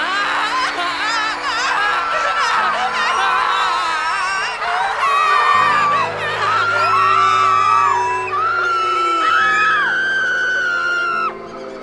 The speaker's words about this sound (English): So scream with me again, universe, with all your pain and sorrow and fear and loss. Scream. Scream. Scream.